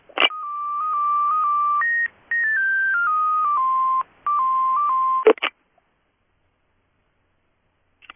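A run of electronic telephone tones, steady pitches stepping up and down for about five seconds with two brief gaps, ending in a couple of sharp clicks, then near silence.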